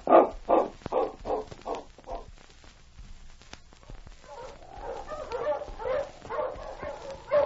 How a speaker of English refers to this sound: As the great dog got the scent of Chuck Ramsey's tracks, he growled. Well, old boy, I guess you're never going to like Chuck.